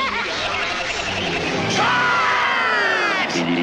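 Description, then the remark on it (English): Steady roar of crowd noise, loud and close, with yells and a rising whistle-like cry in the middle, apparently produced by a single voice imitating a crowd. “Well, it sounds like a crowd.”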